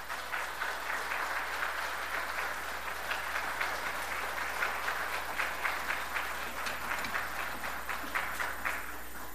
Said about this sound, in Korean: 말씀을 나누면서 목사님 나오실 때에 큰 박수로 맞이하겠습니다. 네.